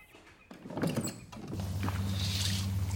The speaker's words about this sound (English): I love the sound of water makes.